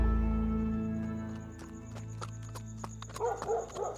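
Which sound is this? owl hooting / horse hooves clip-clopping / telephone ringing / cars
horse hooves clip-clopping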